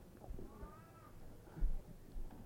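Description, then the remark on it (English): An old cat lets out one drawn-out, wavering meow at fairly low volume, with a few soft thumps and faint background noise around it and no one talking. “My ancient cat here. You sound like a baby.”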